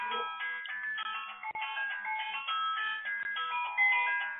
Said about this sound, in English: Is that your cell phone ringing? It's not mine. No, it's not mine either. It's obviously something on your side. Oh, my goodness. It's mine. It's my phone. There's another phone, the office phone.